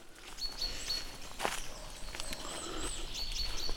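Birds sing all around a path beside a meadow, thin high whistles and chirps repeating over a soft breezy background, with one brief crunch like a footstep midway. No one speaks.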